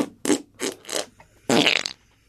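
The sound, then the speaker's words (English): A grown man makes armpit farts by hand: three short wet, squelchy blasts in quick succession followed by one longer, louder sputtering one, with no talking. “It's a grown man doing armpit farts.”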